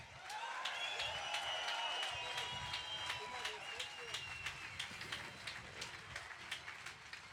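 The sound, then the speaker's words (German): A large crowd at a street demonstration in Stuttgart applauds itself loudly and steadily, clapping mixed with cheering voices; toward the end the clapping turns into more regular, rhythmic claps. “Gebt euch selbst einen Applaus.”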